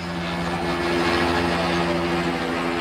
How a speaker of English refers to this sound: Almost drowned out by the hovering helicopter, Rodney King writhes on the ground as four cops beat him with batons repeatedly and furiously, and several others stand by.